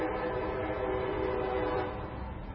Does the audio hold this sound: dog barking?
no